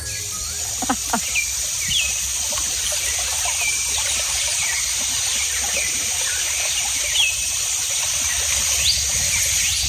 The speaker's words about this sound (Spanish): Esto que escuchas es la selva amazónica brasileña. Entre la multitud de aves que se escuchan y entre los árboles frondosos viven los miembros de la tribu Yanomami.